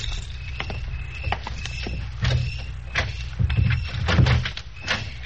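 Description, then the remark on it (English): Keys jingle and clink in a quick, uneven series of metallic taps, followed by the rattle and bump of a door being opened, all fairly soft with no talking. “Have you got your keys? Yes. Here.”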